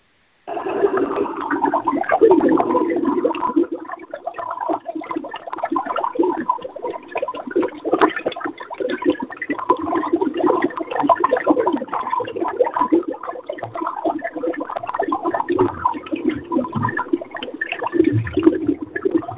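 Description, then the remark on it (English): Water bubbles and gurgles steadily for the whole stretch, a dense, churning stream of small pops and burbles at a fairly even, moderately loud level, with no voices. “And here are your bubbles.”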